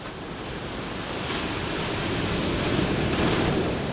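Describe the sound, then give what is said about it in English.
Steady Atlantic Ocean surf at Westerly, Rhode Island, rushing and washing in a broad, continuous roar, swelling slightly louder partway through, with a windy hiss over the top and no voices. “And then there's this, the big old Atlantic Ocean.”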